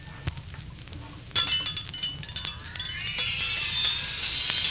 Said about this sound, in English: There's Dr. Carter's dinner gong. Come along.